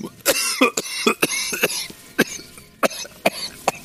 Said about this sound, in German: Entschuldigung, ich habe mich verschluckt. Ein Schluck Wasser. Das geht ja in die Husterei jetzt hier.